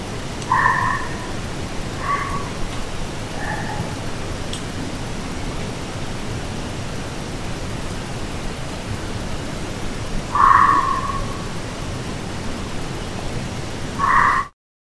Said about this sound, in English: So here's some weird barks, possibly foxes or coyotes. So we'll play this one time.